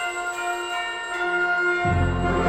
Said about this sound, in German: Doch dann läuten die Weihnachtsglocken.